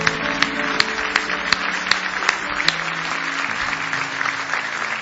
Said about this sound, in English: Give him a big hand clap if you love him this morning.